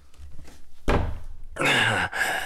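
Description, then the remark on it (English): Hands thump against a door: one heavy hit, then a louder, resonant bang and a final knock, each dull and booming, with no talking. “Both of you, hands against the fucking door.”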